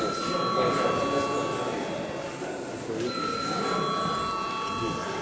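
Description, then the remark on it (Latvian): A steady electric bell rings continuously at moderate loudness, with a brief dip around the middle before resuming, over a low murmur of people talking. The bell is rung to call members to registration during a sitting of the Latvian parliament (Saeima). “Lūdzu zvanu reģistrācijai.”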